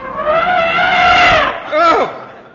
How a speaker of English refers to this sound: Are you ready? Bugler, sound the elephant.